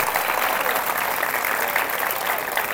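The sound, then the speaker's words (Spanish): Steady applause from an audience fills the whole stretch, a dense wash of many hands clapping at even loudness without a break. “Dale un aplauso entonces esta noche.”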